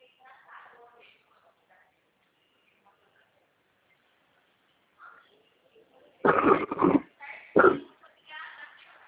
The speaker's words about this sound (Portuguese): Eu tô com uma tosse no olho.